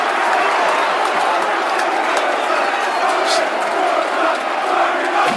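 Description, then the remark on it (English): A large football crowd at a Brighton versus Millwall penalty shootout roars and shouts in a loud, dense, unbroken wall of voices after Brighton's Glenn Murray hits the crossbar with the first penalty, reacting as one for several seconds without easing off. “Always generous, the middle crowd.”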